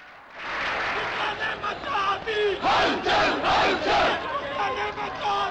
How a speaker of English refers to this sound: The protesting lawyers scream, "Who changes Pakistan?" in Urdu. The reply, "Lawyers, lawyers."